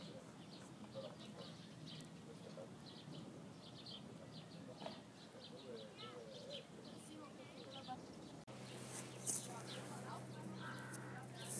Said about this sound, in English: I invite some of you to come to the upper deck where the seagulls that flies above will come down and drop a message for you.